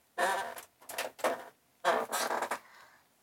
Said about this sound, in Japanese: ごめんなさい、ギシギシ椅子が鳴っちゃうんだけど。